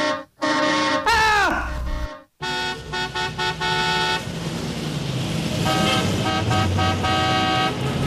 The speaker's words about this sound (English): Oh, heavy traffic right here.